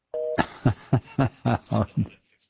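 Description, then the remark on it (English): A short, steady two-note telephone tone, then a quick, even run of about seven harsh, buzzy bursts of phone-line noise that ends abruptly, as a caller from New York is cut off by a radio call-in program's new phone system. “We've got a weird phone system here.”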